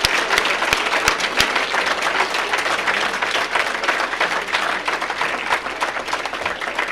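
Sustained audience applause for a performer at the close of an event, a dense, steady wash of many hands clapping at a fairly loud level, with a few sharper individual claps standing out near the start.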